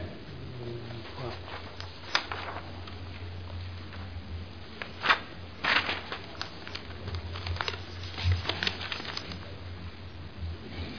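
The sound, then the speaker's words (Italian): Paper rustles as a page is turned during a council session on budget amendments, a few crisp, crinkly bursts scattered across several seconds over a steady low hum, with no talking. “Grazie Presidente, un attimo che volto la pagina perché...”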